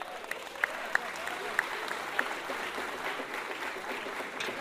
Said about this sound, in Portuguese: Ô, gente, então vamos aplaudir